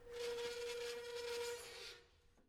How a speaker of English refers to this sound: He was engrossed in his book when he heard the loud scraping of a chair being dragged across the floor, shattering in silence.